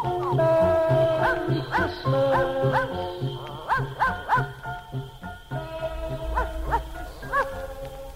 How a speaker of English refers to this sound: Cause Boo-Bo goes where Santa goes and children know where Boo-Bo goes on Christmas Eve when all is dark. Children hear Boo-Bo bark. Hurry up, Boo-Bo, hurry up.